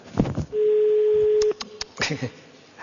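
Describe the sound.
A single steady telephone ringing tone of an unanswered call sounds on the line for about a second, loud and clear, with someone talking briefly just before and after it.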